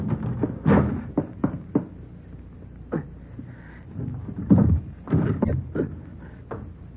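A phone booth door rattles open and bangs shut as a man gets out, with a series of wooden knocks and clunks spread unevenly over several seconds, some louder thumps near the end.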